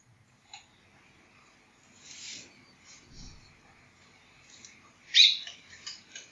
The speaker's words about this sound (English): If we're all very still, inwardly still, the bird will settle.